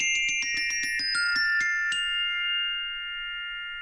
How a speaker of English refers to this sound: We also have another instrument that would ring, is a glockenspiel, which again is metal bars, small metal bars, laid out in a keyboard fashion. It's a familiar sound.